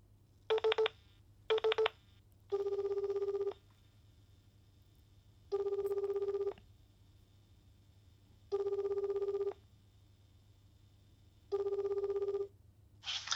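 Two quick electronic dialing beeps as a phone call is placed during a radio recording, then four evenly spaced ringback tones, each about a second long with pauses between, heard over a low steady hum and no voices.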